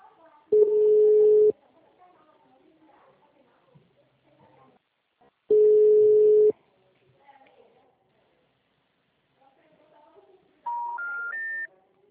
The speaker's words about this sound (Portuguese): O telefone encontra-se ocupado. Por favor, tente mais tarde. O número está ocupado.